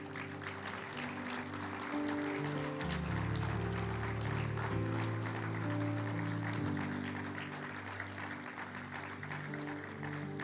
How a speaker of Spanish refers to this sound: Aplaudan, por favor.